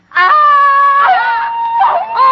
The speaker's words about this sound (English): Now, let me hear you scream and then read the line.